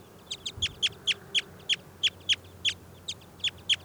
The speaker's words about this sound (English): I've just pulled that wild bird out of the net. That'll be bird 406